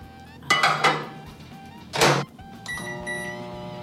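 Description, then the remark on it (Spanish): A microwave oven door clunks open and then thuds shut, followed by a steady humming drone as the oven starts running. There is no talking. “Un microondas.”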